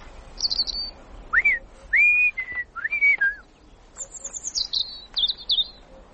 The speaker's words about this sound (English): Was that robin calling us? Is it really calling us? There he is, in the bush.